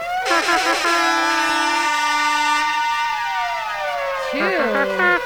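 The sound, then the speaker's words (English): A voice imitates a blaring air horn, producing a loud, sustained, buzzy honking tone with wavering pitch that swoops and bends for several seconds before ending in a final rising blast. “You want to give yourself an air horn? I can air trumpet it.”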